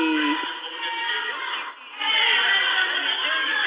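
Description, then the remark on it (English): A disruptive crowd at the back of an auditorium, upset with Commissioner Brandon Johnson at a candidates' event: many voices shouting and clamoring over one another in a loud, continuous din, with a brief dip near the middle before the uproar swells again. “the crowd at the back of the auditorium in which this event was held was not removed as they disrupted.”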